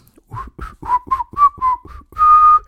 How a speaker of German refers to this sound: pfeift fröhlich ein Lied, irgendein Lied dabei. Zum Beispiel My Bonnie's Over the Ocean.